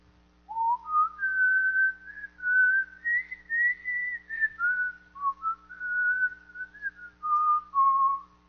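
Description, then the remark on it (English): Someone whistles a slow, sustained melody alone, clear, the notes gliding smoothly from one to the next, with brief breaths between phrases: the hymn "There Is a Fountain Filled with Blood." “He started to whistle, "There is a fountain filled with blood drawn from Emmanuel's veins.”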